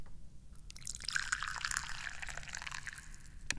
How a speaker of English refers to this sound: Help me. Help me. Help me pour some tea. I have not had any tea yet today, so we need to start drinking it.